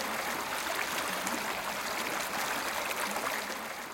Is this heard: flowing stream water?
yes